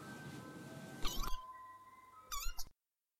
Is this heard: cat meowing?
yes